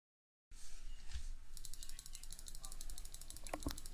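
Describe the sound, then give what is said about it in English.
A computer mouse clicks rapidly and steadily in a fast, even stream of sharp little taps that starts after a second of soft background noise, while someone plays the game Civ Clicker. “I'm clicking.”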